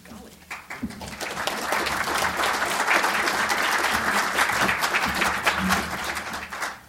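A crowd applauds steadily for several seconds, a dense wash of many hands clapping at an even, sustained level after a brief quieter start, as Ambassador Bill Brownfield is introduced to give his remarks.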